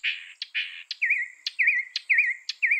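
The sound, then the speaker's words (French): A mockingbird sings, first repeating a harsh buzzy phrase, then switching to a quick warbling whistle repeated several times in a steady rhythm, with sharp clicks between phrases. “Une étude de 1987 a classé des milliers de chants de seulement 4 oiseaux moqueurs.”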